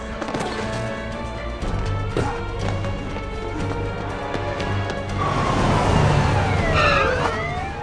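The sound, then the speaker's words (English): Wailing police sirens rise and sweep over a dense rumble of traffic, growing louder in the second half as several cars converge at the entrance to a subway station. “cars converge at the entrance to the subway station.”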